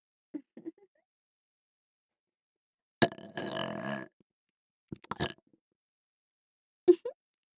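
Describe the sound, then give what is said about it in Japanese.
Someone drinking a fizzy soda: a few small gulps and swallows, then a long, loud burp, followed by more short gulping sounds with quiet pauses between. “ただ炭酸飲んでるだけなのに。”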